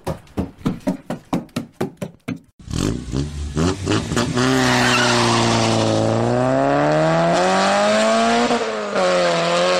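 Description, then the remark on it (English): Race cars on a short track, heard upstairs from the basement of a house: a quick run of sharp, rhythmic bursts, then a loud, continuous engine whine that climbs and dips in pitch over a roaring, gritty wash. No voices. “Short track racing.”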